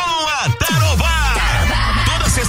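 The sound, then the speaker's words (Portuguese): A group of construction workers at a building site shout and yell loudly together during a work break, at a barbecue held there by radio station Tarobá FM. Their overlapping voices rise and fall in a burst of rowdy, energetic cheering that fills the whole short moment. “Tá na hora de dar aquela pausa e soltar o grito.”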